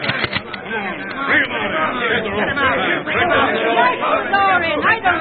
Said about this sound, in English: This mob looks dangerous.